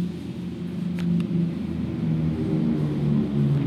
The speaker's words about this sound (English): Dude, that's a big-ass plane flying overhead. Where is it going? Well, the airport's that way. No, but that was really close.